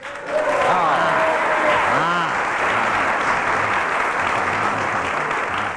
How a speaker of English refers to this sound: Oh, well, I've got a clap. Got a round of applause. I've got a clap. Amazing.